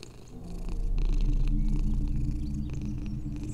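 A house cat purrs steadily, a low rumbling drone with a soft rhythmic pulse that holds through the whole stretch without any talking.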